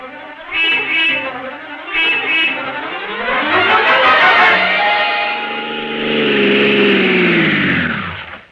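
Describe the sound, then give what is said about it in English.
A taxi engine revs up and accelerates, its pitch climbing and then settling into a steady drone before winding down, preceded by two short horn-like bursts. No one speaks. “Sergeant, get a taxi. We're leaving immediately for the Columbia Broadcasting Studios.”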